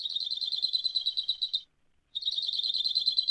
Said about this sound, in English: It makes mention of the song of the Hawaii creeper. And not only have I been reading about these things, I've been listening to them, too. Here's that Hawaii creeper.